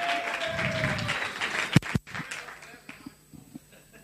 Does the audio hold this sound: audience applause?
yes